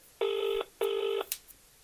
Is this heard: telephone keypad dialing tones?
yes